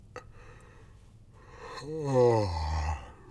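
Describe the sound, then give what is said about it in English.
A single human yawn: a breathy intake that swells into a long, voiced exhale sliding downward in pitch before trailing off, with no talking. “Now you're making me yawn, and this just isn't good.”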